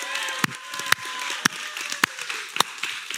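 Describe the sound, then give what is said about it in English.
An audience applauds mothers on Mother's Day in a steady, dense wash of clapping, with a few sharper, louder claps popping out about every half second over the continuous crowd noise. “Okay, I'm going to say Happy Mother's Day one last time, and when I do that, at the end, let's really applaud our moms.”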